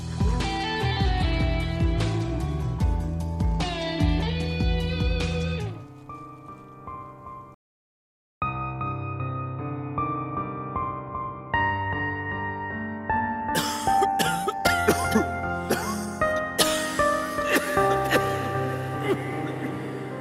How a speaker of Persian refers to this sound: با ترانه روز به برنامه رو پایان میرسونیم.